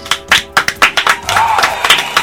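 Audience applause: a burst of sharp, bright claps in a loose rhythm, briefly thickening into a denser patter in the middle before returning to separate claps. No voices are heard.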